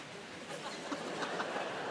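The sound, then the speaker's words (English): A person imitates a dog panting with a run of quick, breathy huffs, rough and hissy, in a steady rhythm of short bursts at moderate loudness, with no speech. “Can you do dogs panting?”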